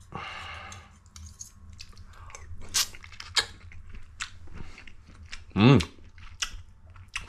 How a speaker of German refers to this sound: Ich habe richtig Hunger. Und lass einfach mal reinbeißen, wie das Ganze denn schmeckt. So.